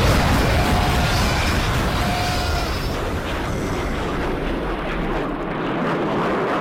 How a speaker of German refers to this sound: So klingen tatsächlich Bomben, die auf Alpakas fallen, aber natürlich nicht in echt, sondern nur als Teil einer Videospielsatire.